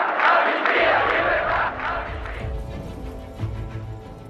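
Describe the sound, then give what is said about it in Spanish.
A large crowd of citizens protesting in the street shouts and chants 'amnistía y libertad' (amnesty and freedom) together in a loud, sustained roar that swells for a couple of seconds, then breaks into scattered voices over low rumbling and clatter. “Los ciudadanos salen a la calle para manifestarse bajo el grito de amnistía y libertad.”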